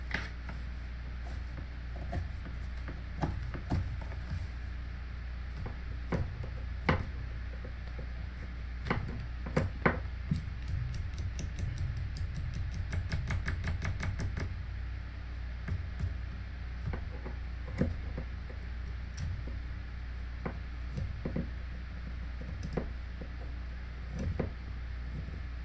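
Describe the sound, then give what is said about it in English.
Scattered sharp scraping clicks as a knife shaves wood from a pencil, speeding up midway into a quick run of rapid scratchy strokes before slowing to occasional cuts. No one speaks. “I need to sharpen my pencil though.”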